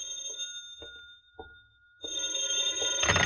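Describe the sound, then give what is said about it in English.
An old-fashioned telephone bell rings loudly in a house in town, a sustained metallic jangle with steady tonal overtones, preceded by a few soft knocks. “2 hours later, you're back in your house in town, where you nervously await the phone call you're certain you'll receive.”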